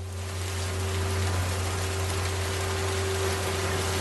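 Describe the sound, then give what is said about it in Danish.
Steady, dense hiss of heavy rain pours down without a break at a harbour, with a low constant hum running beneath it. No voices are heard. “Da hun kommer ned til havnen, står hun igen ude i regnen.”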